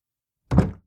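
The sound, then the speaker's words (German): A single dull thunk, like a door swinging shut into its latch, heard once after silence with a short low resonance that fades quickly. “Das Geräusch einer Tür, die ins Schloss fiel.”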